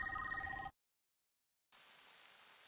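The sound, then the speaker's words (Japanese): A short burst of an electronic telephone ring, heard as the caller waits for an answer, cuts off into a second of silence before steady, soft rain noise fills the rest. “ちょっと電話かけてみるね。”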